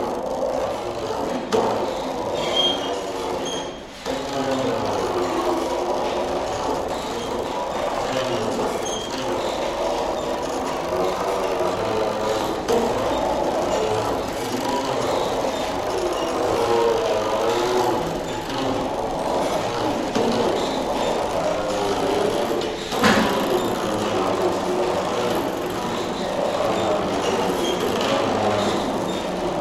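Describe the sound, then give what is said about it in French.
Small recycled printer motors whir and rattle together in a dense, steady mechanical drone with layered humming tones, fairly loud, briefly dipping once and clattering near the end. No voices. “On sait où ils passent, nos moteurs d'imprimantes.”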